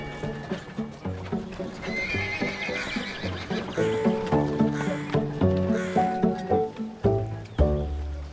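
A donkey brays loudly in harsh, repeated calls while hooves clip-clop at a steady trotting rhythm throughout.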